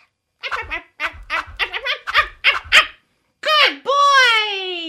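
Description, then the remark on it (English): A dog named Bingo lets out a quick string of short, yappy barks, then after a brief pause a long, drawn-out whining howl, fairly loud with no talking. “What a stupid dog. Can't do anything.”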